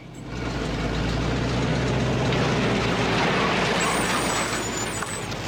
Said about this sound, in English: I think I see a car coming. No, wait, it's a truck.